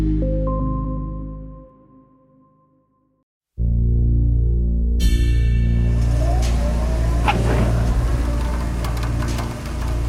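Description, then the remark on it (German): A winch launches a glider into the air at the small airfield above Eichstätt in the old Mühltal: a steady engine hum cuts to a moment of silence, then a loud, roaring engine revs hard with rising whining tones and rattling, sustained to the end. “Am kleinen Flugplatz über Eichstätt im alten Mühltal wird ein Segelflugzeug in einer Winde in die Luft gezogen.”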